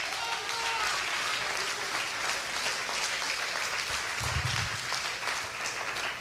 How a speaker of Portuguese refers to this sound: Aplaude a ele, ele está aqui.